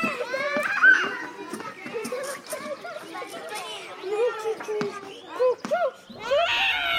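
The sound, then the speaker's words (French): Children playing at a kindergarten: a lively mix of high-pitched kids' voices, shouts and chatter overlapping continuously, with occasional squeals rising above the busy background babble. “Une école maternelle.”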